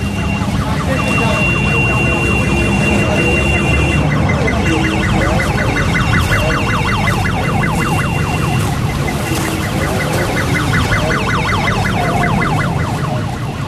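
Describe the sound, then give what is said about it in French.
Ambulance sirens warble in fast, repeated rising-and-falling cycles, loud, at the scene of a building fire, over a dense roar of street commotion with indistinct voices in the background. “Voilà les ambulances qui sont là, moitié vides, mais t'as vu ça aussi, c'est encore des ambulances du tiers-monde quoi.”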